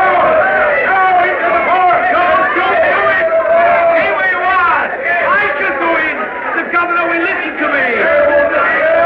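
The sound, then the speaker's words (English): A dense, agitated crowd roars continuously, many voices shouting over one another, loud and unbroken for the whole stretch with surges of raised cries, as the people press forward at the shut gate of a fort while soldiers bar the way. “The soldiers are barring the way, but the people are still trying to press forward.”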